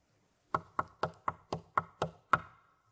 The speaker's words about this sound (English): Who is that that knocks so loud? The answer came, just a little sin. So I opened the door, and soon all hell was in.